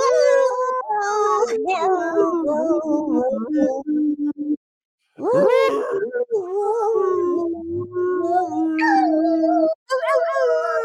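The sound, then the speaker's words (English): Several puppies on a puppy cam howl together in long, wavering, pitch-sliding notes that rise and fall like a song, with a brief pause midway before the chorus resumes, loud. “They're going to be singing a happy birthday to Rennie in chat.”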